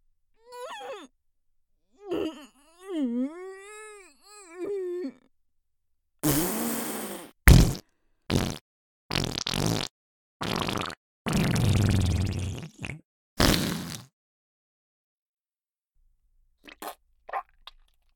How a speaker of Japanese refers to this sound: 来た来た、今までで一番すごいの出ちゃいそう。君耐えられるかな。おばさんのとっておき、いい、出すわよ。忘れられないくらいくっさいおなら。